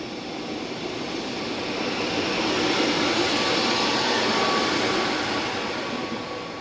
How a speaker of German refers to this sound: Gleis 15 Einfahrt, IC 115 nach Klagenfurt über München, Abfahrt 11.58 Uhr, Vorsicht bei der Einfahrt.